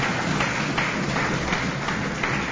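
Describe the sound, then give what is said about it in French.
Steady applause from an audience welcoming the director of the NGO ADDFO as a guest on a programme in Kasaï province, a dense, even wash of many hands clapping at a fairly loud level throughout, with no voices over it. “Et merci également de l'applaudir.”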